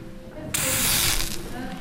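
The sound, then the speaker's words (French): A sudden burst of bright, crackling sizzle as a little water is put on a hot iron to check that it is hot enough, spitting and hissing for about a second before fading into a softer fizz. “Et puis, on contrôle que le fer soit bien chaud, en fait, là, si je mets un peu d'eau dessus.”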